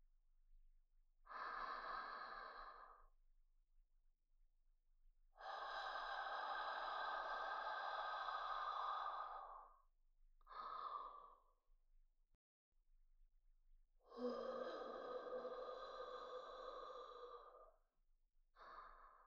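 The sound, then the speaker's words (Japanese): Heavy, airy breaths blown straight into a microphone, five of them: long drawn-out exhales broken by a couple of short puffs, loud and hissy with no talking. “吐息でこんな興奮してんの、変態すぎっていうか”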